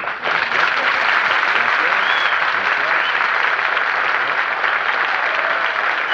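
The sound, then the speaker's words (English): The studio audience of Fred Allen's radio comedy show applauds loudly and steadily for about six seconds as he is introduced, with a few thin whistles rising faintly above the dense clapping. “Thank you, and I haven't heard whistling in here since the night the man lost his dog.”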